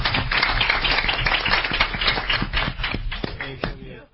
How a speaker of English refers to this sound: So anyway, a round of applause for her last council meeting.